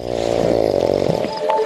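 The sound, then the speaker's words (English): A loud, deep, lion-like roar rumbles, a single sustained growling tone lasting under two seconds with a rough, buzzing texture and no talking. “It sounds like a lion roaring.”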